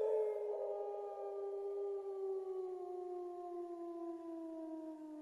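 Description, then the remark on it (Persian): A single long wolf howl, played as a sound in a children's guessing game, holds a steady, clear tone that slowly slides lower over about five seconds, rich with harmonics and heard alone without any talking. “آفرین، صدای گرگ بود.”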